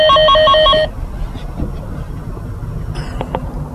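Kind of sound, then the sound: household object, doorbell ringing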